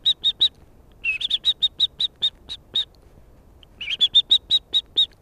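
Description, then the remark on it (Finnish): A person imitates a blackbird's warning call at a real blackbird hopping under a spruce tree and turning dry leaves: two runs of sharp, high, clicking chinks, each starting with a quick flurry and settling into a steady rhythm, fairly loud with no talking. “Ja sitten kääntelee tuolla noita kuivia lehtiä, niin mä ajattelin, että vaikuttaisiko tää siihen, jos sä laulat sitä mustarastasta.”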